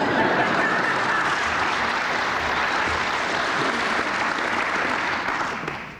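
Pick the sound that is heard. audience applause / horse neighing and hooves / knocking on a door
audience applause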